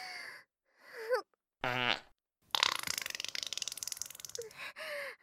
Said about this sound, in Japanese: あなたの舌気持ちよすぎておなら出ちゃった。